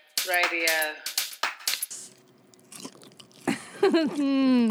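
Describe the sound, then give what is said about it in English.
A man crunching while eating, a short run of dry, irregular crackles, framed by bright, tonal vocal squeaks before and after with no clear words. “I am delighted to be joined by the enigmatic, that's him crunching,”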